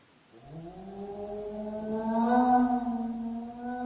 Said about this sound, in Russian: Вы слышите, Холмс? Это собака.